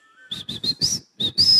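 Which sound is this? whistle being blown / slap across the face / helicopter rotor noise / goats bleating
whistle being blown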